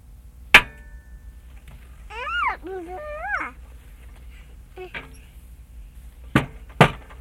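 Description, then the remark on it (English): A child's toy hammer bangs on the child's own chair with sharp knocks: one single hit, then a quick pair near the end. A high, wavering vocal whine fills the quiet middle. “Tap, tap. Or bang, bang, as the case may be.”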